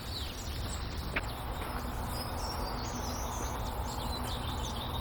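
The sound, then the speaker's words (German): Tits give a rapid flurry of sharp, agitated alarm calls, with short high chips and scolds overlapping against a steady outdoor hiss. The alarms are set off by a jay. “Die Meisen regen sich auf.”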